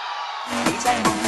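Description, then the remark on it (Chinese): A crowd screams and cheers in a dense, steady roar, with a few shrill cries sweeping up and falling away over the noise. “尖叫声礼物全部送给你。”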